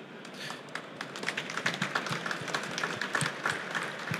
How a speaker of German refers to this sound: Da gibt's Applaus.